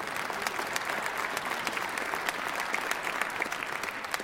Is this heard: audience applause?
yes